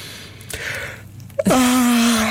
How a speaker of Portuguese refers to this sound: Mas tu não estás a tu estás a fingir o bocejo. Há pessoas que estão a bocejar neste momento, posso dizer. Estás a fingir o bocejo. Isso não funciona assim.